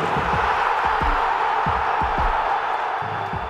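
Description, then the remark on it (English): A stadium crowd at an Atalanta match in Bergamo roars in a loud, steady wall of cheering at a goal by Atalanta's top scorer, holding without a break, with scattered whoops and low thumps rising through the mass of voices. “But not only, the crowd called the goal.”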